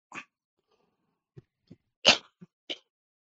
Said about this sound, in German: … war ja erkältet zu der Zeit und man hört ihn andauernd husten